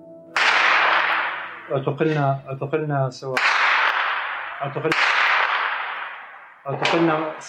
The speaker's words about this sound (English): In one scene, an interview with 2 activists in the city of Daraya keeps getting interrupted by distant gunfire.